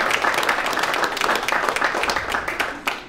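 A crowd applauds steadily, many hands clapping in a dense, even wash of sound that stays loud throughout without any talking.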